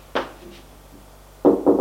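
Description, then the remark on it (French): Knocking on a door on the first floor of a school: one solid knock, a pause of over a second, then two louder knocks in quick succession. No voices. “Arrivé au premier, il va frapper à une porte.”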